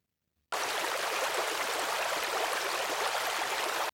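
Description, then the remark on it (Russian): After a brief silence, a steady rush of flowing stream water starts abruptly and continues evenly, bright and hissy, with no voices. “По ручейку он добрался до большой реки.”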